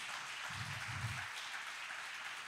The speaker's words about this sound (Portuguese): Aplauda o Senhor, queridos.